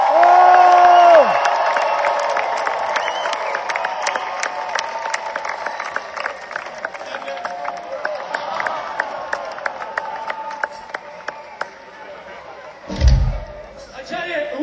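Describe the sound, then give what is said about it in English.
A large concert crowd in New York cheers and applauds steadily as a band member is welcomed on stage, dense clapping mixed with scattered whoops and shouts, opening with a loud sustained cry, and a heavy low thump rising briefly near the end. “Please, New York, give a New York welcome to my beautiful best friend in the world”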